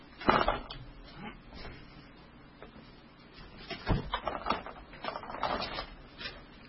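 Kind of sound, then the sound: household object, door being closed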